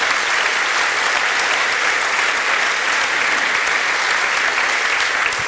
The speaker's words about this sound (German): Können wir bitte mal einen Applaus für diesen jungen Mann haben?